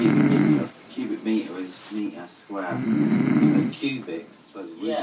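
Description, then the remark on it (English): A mother snoring loudly while asleep on a sofa, with long rumbling, rasping snores broken by shorter snorting breaths in an uneven rhythm. “No, that's not a walrus's mating call. That is, in fact, my mum asleep on the sofa.”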